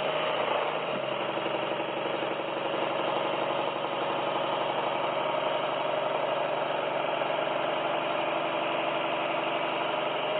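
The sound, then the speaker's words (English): An electric sewing machine motor, switched on with its pedal control, runs steadily for the whole stretch, a constant mid-pitched whirring hum with layered tonal buzz and no change in speed or loudness. “So once the connections are done, we press this. This is the pedal control and we see whether the motor runs or not.”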